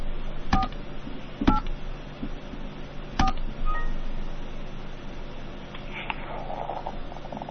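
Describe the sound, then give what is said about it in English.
A handful of touch-tone phone keys are pressed one at a time at an uneven pace to spell a last name in a phone dial-by-name directory, each with a sharp click and beep, over a steady low background hum. No one speaks. “Spell the last name first using the keys on your touch-tone phone.”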